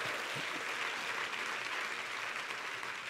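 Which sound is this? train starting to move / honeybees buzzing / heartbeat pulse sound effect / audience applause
audience applause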